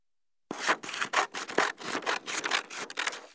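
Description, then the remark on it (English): Scissors cutting through paper in a quick series of crisp, rasping snips, about ten strokes in a steady rhythm, fairly loud after a brief silence, with no voices. “Scissors.”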